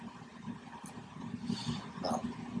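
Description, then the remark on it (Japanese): A ventilation fan runs steadily while someone smokes a cigarette, giving a continuous low motor hum layered with broad airy hiss, and a few faint brief clicks and swells rising over the drone. No one speaks. “換気扇の音がね、タバコ吸ってんのにね。”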